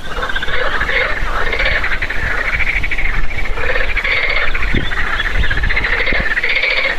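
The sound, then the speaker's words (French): A marsh frog croaks in its pond in long, repeated, loud rattling bursts over a steady outdoor background hum with no voices. “Il s'agissait d'une grenouille rieuse qui chantait dans son étang.”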